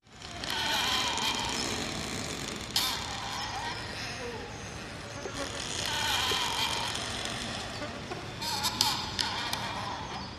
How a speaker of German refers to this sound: Die knarrenden Bäume, die sich wie eine quietschende Schubkarre anhören, wenn die Äste der Bäume sich berühren und aneinander reiben.